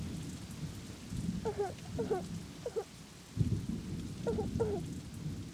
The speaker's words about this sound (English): It was impossible to sleep because of the noise of the storm.